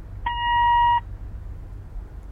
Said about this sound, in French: Vous avez 2 minutes pour parler, après le bip sonore. Merci.